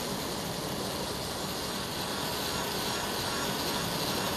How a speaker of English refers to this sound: Now, it needs some finishing touches. I do the fine detail work by hand. I use a small hand tool. It sounds kind of like a dentist drill.